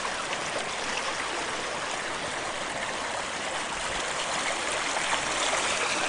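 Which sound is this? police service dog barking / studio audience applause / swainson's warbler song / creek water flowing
creek water flowing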